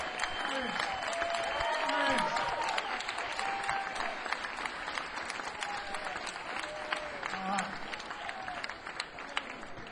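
A crowd applauds steadily for the full ten seconds, a dense wash of clapping with scattered cheers and whoops rising above it, loud and sustained without fading.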